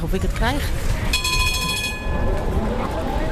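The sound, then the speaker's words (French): A tram in Amsterdam rumbles steadily along the tracks, fairly loud, with a sustained metallic ringing tone rising over the noise for about a second midway. Muffled voices murmur in the background. “De la gare centrale d'Amsterdam, il faut une vingtaine de minutes en tramway pour gagner Heijburg.”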